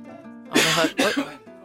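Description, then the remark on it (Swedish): Ordinary IKEA curtains in a studio are raised with two quick, breathy swishes back to back, each lasting under half a second, heard over a faint steady hum with no talking. “Och så upptäcker du ett litet ljud när jag fäller upp de här gardinerna in i studion.”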